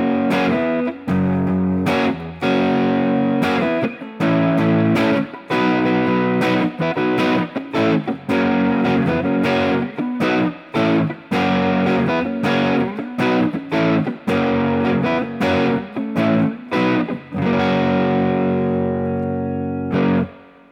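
Heavily distorted electric guitar chords from a Les Paul ring out through an amp channel, the same chords strummed again in a steady rhythmic pattern with brief choppy breaks, loud and thick, with no talking over them.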